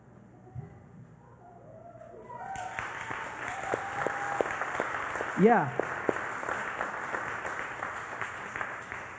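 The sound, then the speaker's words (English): A church audience breaks into steady applause for a group of ladies standing up, many hands clapping in a dense, sustained patter that lasts several seconds, with a voice speaking briefly over it and a short exclamation partway through. “The reason, I mean, you guys just clapped and gave them a hand, and you have no idea why, which is awesome.”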